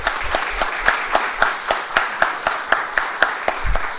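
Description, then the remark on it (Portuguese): An audience applauds steadily for about four seconds for newly promoted members of the Regional Brigade, a dense wash of hand claps with a regular rhythmic beat running through it, fairly loud and with no one speaking. “Então, em nome do comando, agradeço muito a homenagem e peço uma salva de palmas para eles, porque eles realmente merecem.”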